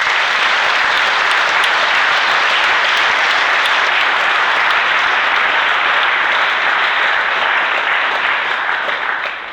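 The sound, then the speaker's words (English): Sustained audience applause for the NA group's GSRs, secretaries, treasurers and public relations members fills the whole stretch, a dense, steady wash of many hands clapping at once, loud, beginning to thin only at the very end. “So I want to give applause to our GSRs, our secretaries, treasurers, and our PRs.”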